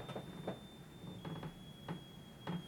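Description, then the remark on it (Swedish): A bottle of Fanta fizzing faintly, with a thin, steady high-pitched whine of escaping gas and a handful of soft, irregular hissy bursts over a low background rumble. No one speaks. “Det är din Fanta. Ja, det var det. Jag har aldrig hört en flaska låta så här.”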